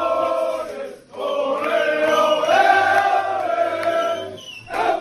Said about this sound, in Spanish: Este es el sonido, este es el sonido del vestuario del Barça en el Wizzing Center, celebrando el título.